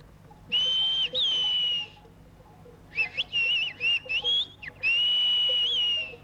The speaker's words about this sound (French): Dans le village d'As, le langage sifflé est une modulation du dialecte local, le béarnais. Donc pour apprendre cette langue, il faut d'abord connaître l'occitan et puis savoir siffler.